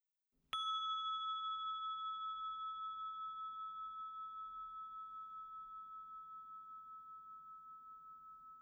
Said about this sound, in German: Wenn Sie das jetzt mal bitte üben wollen, während der Gong Anfang und Ende der Übung markiert.